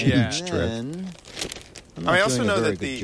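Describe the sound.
Stiff paper rustles and crinkles as about 3 inches of a large paper leaf bag is folded over all the way around, the crackling clearest in a brief pause between stretches of a voice talking.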